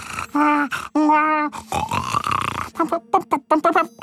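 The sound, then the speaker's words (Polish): A voice imitates Ząbek's snoring, likened to a combustion engine's last breath, with loud, throaty, gurgling grunts, first two long rasping drones, then a rapid fluttering run of short choppy bursts, all vocal. “Takie z bulgotaniem i trzepotem skrzydełek konającego nietoperza.”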